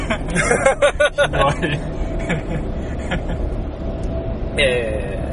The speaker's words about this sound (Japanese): 膝の上あたりで、はい、あんま車の振動、はい、肉でカバーできるし、